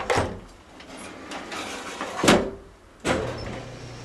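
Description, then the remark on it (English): A home elevator in Alvin Toffler's mid-century house in Los Angeles: a mechanical rumble with several sliding, clunking door sounds, including a sharp bang near the middle and another firm thud toward the end, over a steady low motor hum. No one speaks. “And we put an elevator in.”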